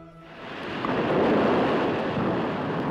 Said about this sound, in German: In den Bergen regnet es heftig. Ein paar Stunden später überrollt eine meterhohe Sturzflut Ain Sefra.